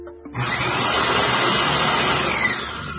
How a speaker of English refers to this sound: That's pretty loud vacuum cleaner. That's nasty with a capital N. Nasty, why? Because it's so loud. That sucks things up. I may have accidentally bought an industrial vacuum cleaner.